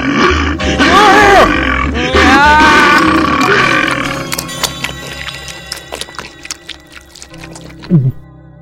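A deep, throaty wolf growl rumbles loudly for several seconds, then gives way to wet chomping and crunching bites as the wolf of the Little Red Riding Hood story eats its victims, ending with a low gulping grunt, with no talking.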